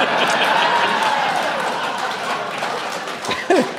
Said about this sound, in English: It was fun how the applause kind of built up to that last one.